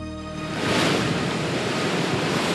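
Heavy surf from a storm surge crashes and roars continuously as huge waves, pushed by strong winds, break and surge over the shore. A loud, dense wash of breaking waves with strong wind buffeting the microphone, building sharply in the first half second and staying intense.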